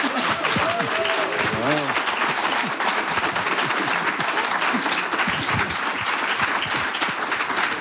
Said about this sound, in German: Bitte einen donnernden Applaus.